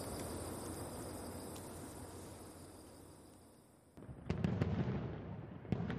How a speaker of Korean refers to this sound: 차창 밖으로는 슈쾅쾅쾅 요란한 폭죽 소리가 끝도 없이 울려 퍼졌다.